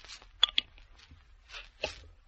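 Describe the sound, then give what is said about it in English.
A Coca-Cola bottle cap is pried off with two sharp clicks, followed by a few soft, short hissing bursts of escaping fizz. Quiet throughout, with no voices. “Open the bottle.”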